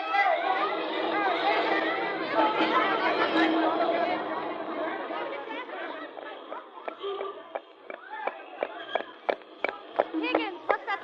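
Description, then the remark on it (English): A crowd of many people chattering at once in a dense, loud babble, apparently chasing someone, which thins in the second half into excited voices punctuated by sharp clattering hits like hurried footsteps. “The crowd seems to be chasing somebody.”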